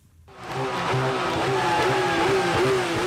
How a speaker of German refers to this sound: ließ den Motor seines schweren Sportwagens aufheulen. Am vergangenen Samstag fuhr er am Berliner Dom vor.